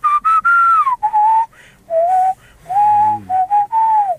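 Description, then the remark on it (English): A man whistles a short melodic tune, the whistled hook of a song, clear and loud, with long sliding held notes and brief pauses between phrases, in the style of a spaghetti western theme. “Okay, can you do the little whistle there?”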